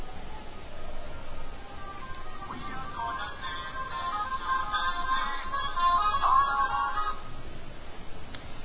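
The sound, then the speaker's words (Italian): A telephone rings with an incoming call in the Radio Speed studio during a call-in show, its electronic tones repeating for several seconds at moderate loudness over a faint, muffled background with no talking. “Ecco, in arrivo una telefonata.”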